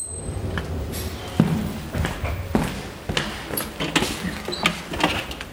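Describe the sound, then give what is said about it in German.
An elevator door slides open at floor minus 1 with a low mechanical rumble, punctuated by several sharp clunks and rattles as it moves, with no one speaking. “Etage minus 1. Tür öffnen.”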